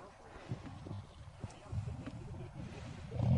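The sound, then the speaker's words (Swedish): A car engine rumbles low and uneven, then revs up into a louder, deeper roar in the final moments, as the first driver in class C, driver group E, is asked to rev the engine at a windy car event. “Vi provar. Gasa på.”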